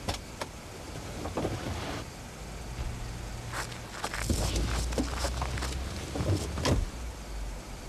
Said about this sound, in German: Als der Wagen losfuhr und davon brauste, mussten Justus und Tai sich im Kofferraum ganz steif machen und gut festhalten, um bei der schnellen Fahrt nicht umhergeschleudert zu werden und sich durch das Geräusch bemerkbar zu machen.